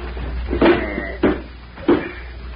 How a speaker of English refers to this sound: That's it. Put the bed against the door. Here, I'll give you a hand. Right over there.